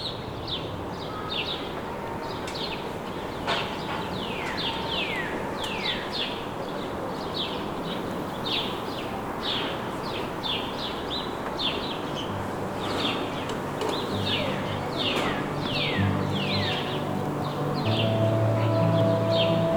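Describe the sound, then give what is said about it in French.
Myriad birds chirp and sing continuously, rapid overlapping calls, over a steady rustling of foliage and the background noise of the city, in a green space in the heart of a city. “Le bruit de fond de la ville. Thank you. et des myriades d'oiseaux.”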